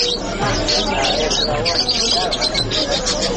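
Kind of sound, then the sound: bird, canary singing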